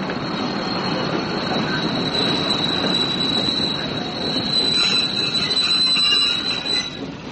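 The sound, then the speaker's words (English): The train from Bournemouth West, Bournemouth Central, Southampton Central, Winchester and Basingstoke rolls in to Platform 7, a dense steady rumble of wheels on track with a thin, sustained high-pitched squeal of brakes running over it as it slows, no voices. “The train from Bournemouth West, Bournemouth Central, Southampton Central, Winchester and Basingstoke is now arriving at Platform 7.”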